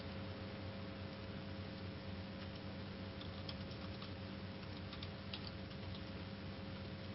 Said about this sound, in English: I'm actually typing some info in here. They were asking about some information.